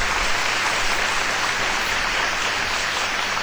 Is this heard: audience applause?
yes